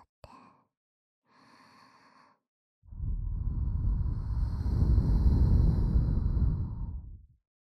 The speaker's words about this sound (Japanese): どうだ？ 温かい吐息が耳に。